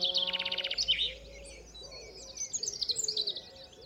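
A bird chirps and trills with no talking: a fast, high, rapid trill at first, then a scatter of quick, bright tweets that grow busier toward the end, moderately loud.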